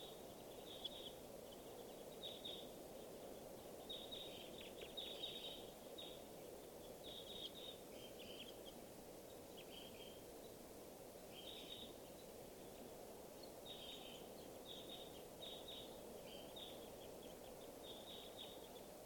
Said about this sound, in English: I'm going to point exclusively at the wild birds now. And they're begging babies here. And birds are all flying over to the watering area. So I see lots of crossbills here. Good numbers.